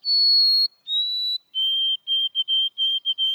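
A white-throated sparrow whistles its clear, pure song: two long, sustained notes stepping down in pitch, then a rhythmic series of shorter repeated notes on a lower tone. No voices.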